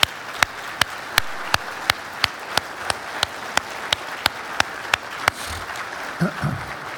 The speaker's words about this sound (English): And this morning we would like to, let's just stand for a moment in honor of our moms. Can we do that and give them a round of applause this morning, please? Let's just welcome them.